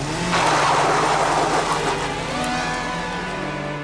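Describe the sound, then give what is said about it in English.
A car engine roars loudly past as the car deliberately cuts in front of another driver, its revving tone climbing in pitch as it accelerates, with a steady rushing drone that eases slightly toward the end. No voices. “She said she was too phased to get the registration number, but as she was driving back, mourning the cosmetic surgery done to her T-Reg Toyota, the same car deliberately cut her up.”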